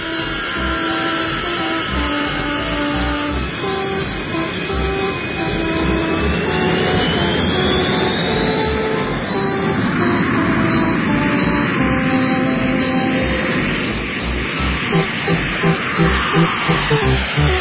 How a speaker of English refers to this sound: You know, according to that sound effects record, that was only one plane taking off. It sounded like one plane taking off.